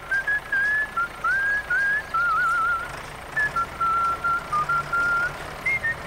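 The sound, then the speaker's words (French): Someone whistles a cheerful melody, a steady run of short and held notes rising and falling in a bouncy phrase, with no talking. “Si tu vas à l'événement d'équipement usagé de JLD Lagu, ton concessionnaire John Deere, ben toi aussi, tu pourrais siffler en travaillant.”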